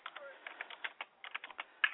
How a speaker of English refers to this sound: Hello. I hear somebody typing, but yes. That's me.